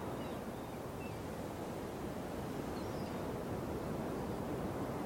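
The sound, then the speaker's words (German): A steady, broad wash of surf rolls continuously at a soft, even level, like waves breaking gently on a shore and washing shells onto the beach, with no distinct individual crashes and no voices. “Im Hintergrund hörst du, wie die Wellen die Muscheln an den Strand spülen.”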